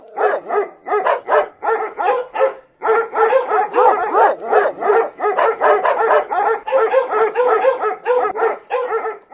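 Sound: dogs barking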